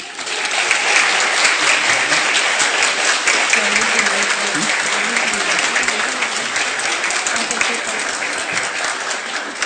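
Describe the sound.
Sustained applause from a crowd at a congress in Cholula, Puebla, for an instructor from Hermosillo, Sonora: a dense steady patter of many hands clapping at a loud, even level for about ten seconds, with faint voices murmuring underneath.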